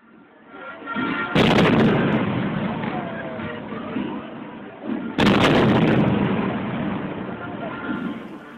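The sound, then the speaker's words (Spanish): Two loud, sharp bursts of gunfire from rifles and .45-caliber pistols ring out several seconds apart, each followed by a sustained rumbling roar, over a dense background of crowd noise and voices, as the weapons are fired on a crowd of marchers gathered in a plaza in Mexico. “Pero pronto, esas voces fueron apagadas por el estallido de las armas que dispararon contra ellos.”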